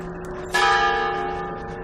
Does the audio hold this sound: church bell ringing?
yes